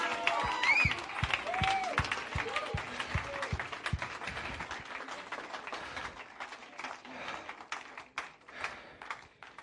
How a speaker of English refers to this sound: Oh, you ought to get on your feet and stehen. Clap your hands, because everything is better. Ist besser.